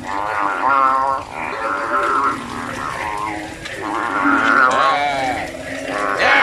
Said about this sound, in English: Get him. Get him. Come on, frog. Yeah, vicious bullfrog fight.